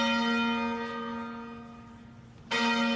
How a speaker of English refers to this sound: The bells of St. George's Cathedral rang out for 10 minutes on Monday.